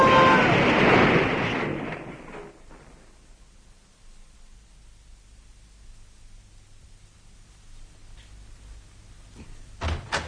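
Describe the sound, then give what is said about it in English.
A car drives straight into another car: a loud, harsh crash of noise erupts at once and fades over a couple of seconds into a low, steady rumble, with a few sharp knocks near the end. “Must have been quite a spectacular little crash.”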